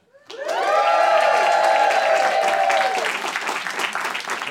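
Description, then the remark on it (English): An audience erupts into loud cheering and applause, with sustained high whoops riding over dense clapping for several seconds before the voices ease and the clapping continues. “Crowd always goes crazy for it.”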